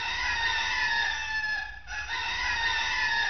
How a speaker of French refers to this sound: Et quand elle entra dans la cour, le coq était perché sur la margelle du puits et chantait.